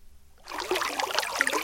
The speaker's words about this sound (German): Ein Steintrog an der Strasse, in der das Wasser plätschert.